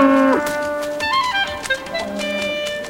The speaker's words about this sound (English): Stray cattle head into a ravine.